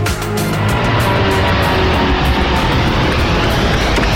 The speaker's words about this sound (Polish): Boeing 787 Dreamliner wystartował z lotniska Everett, który znajduje się na terenie fabryki Boeinga. Teraz jest już w drodze do Warszawy.